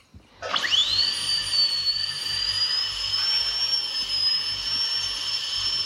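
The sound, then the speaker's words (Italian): A high-pitched dentist's drill spins up with a rising whine, then holds a steady, piercing whir for several seconds, with faint low rumble beneath and no talking. “Se vedo il trapano che esce dal naso, la carriera profonda.”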